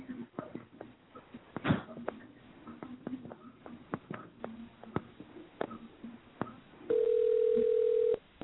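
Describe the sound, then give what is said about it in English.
Phone sounds as a number is dialed: a scatter of sharp clicks and taps like buttons being pressed, followed by a steady, loud dial tone that hums for just over a second before cutting off. “Hey, call 404. Hold on.”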